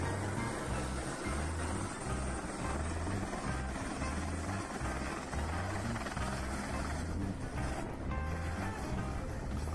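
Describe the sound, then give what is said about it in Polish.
A helicopter's rotor thumps steadily and loudly, its low rhythmic chop running throughout under a broad wash of engine and wind noise, with no one speaking. “Popis stalowych nerwów zarówno pilota samolotu, jak i śmigłowca.”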